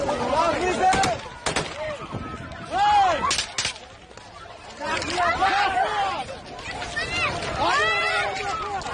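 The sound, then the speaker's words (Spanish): A handful of loud, sharp gunshots crack out at irregular intervals over a dense, agitated crowd at Kabul airport in Afghanistan, where people are trying to get into the airport. Shouts and cries rise and fall throughout. “Las imágenes, los disparos, todo lo que llega desde allí son desgarradoras.”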